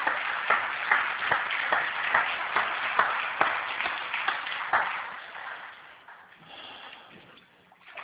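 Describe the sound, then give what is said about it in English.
A church crowd claps and cheers for a woman just baptized, a dense patter of sharp hand claps that holds steady, then thins and fades toward the end. “Well, you got a cheering section out there, girlfriend.”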